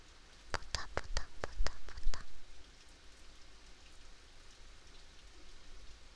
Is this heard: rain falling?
yes